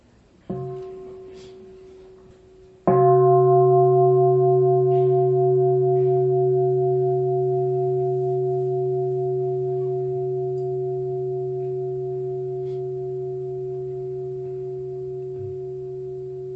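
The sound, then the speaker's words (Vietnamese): A Buddhist meditation bell is struck twice, a light tap followed by a full stroke, its deep resonant tone humming with steady overtones and fading very slowly over many seconds; it is rung to begin a short sitting meditation. “Bây giờ mình thỉnh chuông, chúng ta ngồi nhiếp tâm một chút.”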